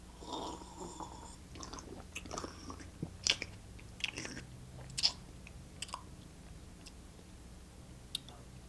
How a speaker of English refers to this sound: I mean, you actually chew the wine, actually gargle with it. I mean, that's proper. That's proper. That's a proper way to do it.